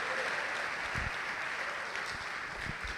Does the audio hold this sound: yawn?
no